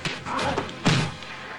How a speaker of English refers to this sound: Held by one man, Bond kicks a second. He pulls free of the first and punches him. The second charges and punches Bond.